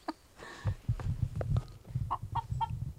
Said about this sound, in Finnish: Kukko tuolla.